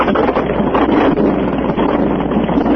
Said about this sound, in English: Got a chainsaw. It's like a leaf blower. That's a chainsaw.